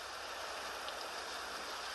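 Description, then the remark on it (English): A steady, even hiss of recorded rain, dense and unbroken, like a soothing rainfall track playing at a moderate, constant level with no voices, played all night by a rain-sounds app on an iPhone. “I have one of these goofy apps on the iPhone that plays rain sounds.”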